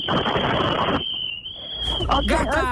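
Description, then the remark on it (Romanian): A long, shrill whistle holds one steady high pitch for about two seconds over loud, rough background noise, then breaks into shorter overlapping whistle and voice-like sounds at the end. A group of girls blow whistles together to mark the start of a Radio Zoo petrol-coupon giveaway for drivers. “Ok, hai să auzim un fluier de la toate, vrei, da?”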